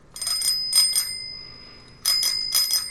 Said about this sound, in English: That's very good. He got me a bell for my scooter. So now I just go flying down the halls at WGN.